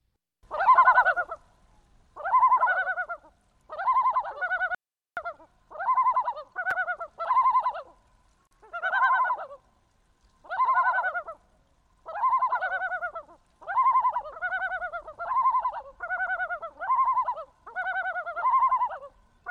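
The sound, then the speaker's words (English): Yellow-billed loon calls: a long series of loud, mid-pitched, harmonic bursts, each wavering and tremulous, repeating steadily about a dozen times with brief silent gaps and no talking. “So I want to play another bird song that, Garrett, you recorded, and this is the yellow-billed loon.”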